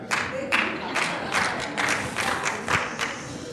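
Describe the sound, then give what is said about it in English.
Scattered audience clapping for a pastor: a handful of sharp, distinct claps ring out at an uneven pace over a low crowd murmur, moderately loud but thin rather than full applause. “I got one hand clap from that.”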